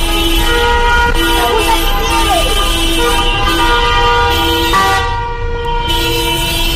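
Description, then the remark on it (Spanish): Many car horns honk continuously over each other, a dense, loud blare of overlapping steady tones with brief gaps, from dozens of cars of Correos postal workers and UGT and Comisiones Obreras delegates in a protest convoy through central León, Spain, demanding changes at Correos. “vamos a hablar de esa manifestación de coches por el centro de León para pedir cambios en correos.”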